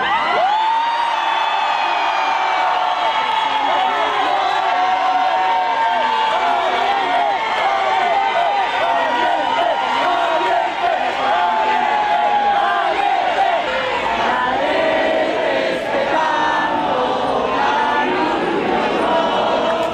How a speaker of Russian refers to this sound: Сторонники Марии Мачадо встретили ее появление на балконе Гранд-отеля Осло овацией, национальным гимном Венесуэлы и скандированием слова «Либертад» — «Свобода».